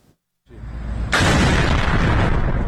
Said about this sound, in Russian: Яркие взрывы и поврежденная крыша здания – это практически все, что достоверно известно об атаке на военный завод в Исфахане.